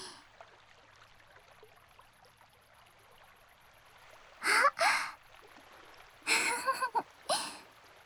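Soft, steady trickle of flowing water on a cool, breezy evening, fairly faint and continuous in the background, interrupted near the end by a few short, louder splashy bursts.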